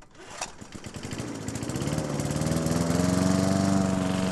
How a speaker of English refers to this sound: Mowing the grass is tedious and repetitive, just the sort of thing you might like to hand over to a robot.